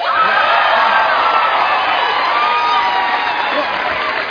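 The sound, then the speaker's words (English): An audience applauds and cheers a comedian's news that he just became a dad, loudly and steadily, a dense wash of clapping mixed with whoops and shouts that holds at full strength throughout before easing very slightly at the end. “No, don't applaud. Don't applaud.”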